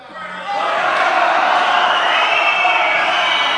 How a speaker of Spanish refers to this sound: Ahí está esa ovación de gala.